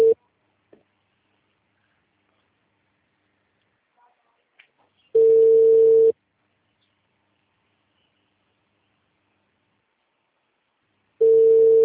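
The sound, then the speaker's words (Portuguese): A phone call's ringback tone before the call is forwarded to voicemail: steady, mid-pitched one-second beeps separated by long silent gaps, with a few faint clicks in between and no talking. “tá dando caixa”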